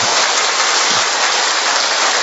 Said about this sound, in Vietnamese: Một tràng pháo tay thật lớn thưa anh chị em. Một tràng pháo tay nữa thật to thưa anh chị em. Và một tràng pháo tay nữa thật bự thưa anh chị em.